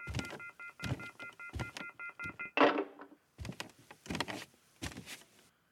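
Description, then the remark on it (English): A loud, harsh telephone off-the-hook warning tone, from a phone left off the hook for a long time, pulses on and off in a rapid, insistent rhythm for a few seconds, then a clunk of handling noise cuts it off, followed by more muffled pulsing. “Our phone here at Nobody Listens to Paula Poundstone apparently has been off the hook for a long time.”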